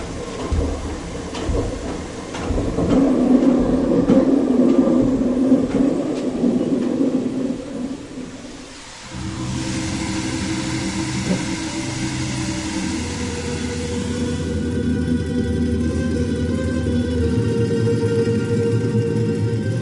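A loud, steady rush of water pounds for several seconds, then shifts to a lower, churning roar with a rhythmic knocking as a watermill's paddle wheel begins turning under a water jet directed through a chute onto its paddles.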